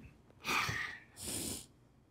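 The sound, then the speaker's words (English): A sneeze, heard as two sharp, breathy bursts about half a second apart, the second hissier than the first, with no talking around it. “Bless you.”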